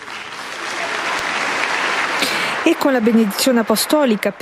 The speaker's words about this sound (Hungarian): És ezzel a tapsviharral ér véget az audiencia a 6. Pál teremben, ahol hát szemmel láthatóan sokkal többen vettek részt már a mai audiencián, mint ezelőtt egy héttel.